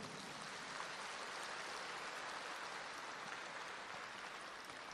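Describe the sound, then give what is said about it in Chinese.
Applause from an audience at a talk on a Zen story, a sparse, uneven patter of clapping from not many people that holds steady for several seconds with no voices over it. “鼓掌的人不是这么多，我就知道，因为你们还没听懂。很多人还没听懂，跟着瞎鼓掌。”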